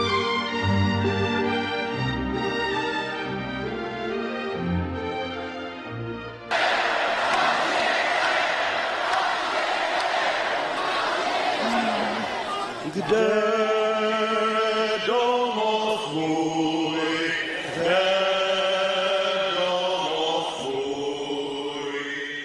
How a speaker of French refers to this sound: En novembre 1989, une foule compacte acclame Václav Havel, puis entame les hymnes tchèques et slovaques à l'unisson